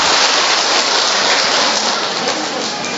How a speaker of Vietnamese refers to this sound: Rồi, cho một tràng pháo tay thưa anh chị em.